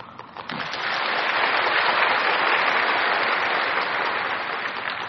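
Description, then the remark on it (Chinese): A crowd bursts into sustained applause, many hands clapping in a dense, steady wash of noise that swells after the first second and holds loud throughout, fading only slightly at the end. “你们好像懂啊，拍手那么多。”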